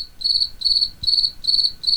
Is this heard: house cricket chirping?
yes